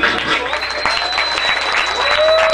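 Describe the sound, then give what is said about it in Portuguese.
A studio audience at Estúdio SP claps steadily for a DJ guest in a dense, loud wash of applause lasting a few seconds, with faint whistles or cheers cutting through at times. “Estúdio SP, palmas para ela.”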